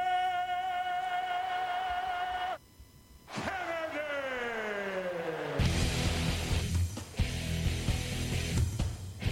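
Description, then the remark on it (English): Loud music plays on its own: a held tone, a short gap, then sliding downward notes before it bursts into a dense, busy passage that stays loud to the end. “Just trying to give some background music to those that are listening.”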